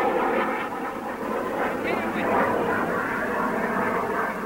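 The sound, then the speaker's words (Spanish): An attacking enemy military jet roars past, a loud, steady rushing engine noise filling the whole few seconds, with indistinct voices mixed in underneath. “Ahí se ve el avión atacante, pasa, se pierde hacia la derecha. Otro avión más. Ahí pasó.”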